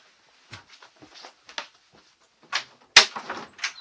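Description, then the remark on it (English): A door is opened for someone who has come to it: a series of short handle rattles and soft knocks, then a sharper latch click and a louder thump as it swings open, with no one speaking. “Someone's at the door.”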